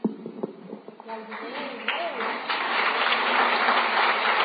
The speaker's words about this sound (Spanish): Perfecto, un aplauso para mí.